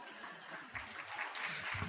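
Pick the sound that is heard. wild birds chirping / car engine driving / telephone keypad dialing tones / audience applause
audience applause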